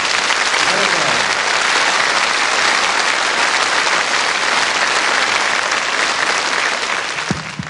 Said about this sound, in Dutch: Ja, bedankt voor het mooie applaus, dames en heren. Ik dacht dat er nog een extra applausje in zat voor onze vibrafonist ….